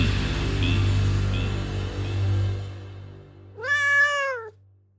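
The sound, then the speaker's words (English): A house cat lets out a single clear, drawn-out, loud meow near the end, following several seconds of low, steady rumbling background noise. “Wild cats and kitty cats share many traits, like a primitive desire for meat.”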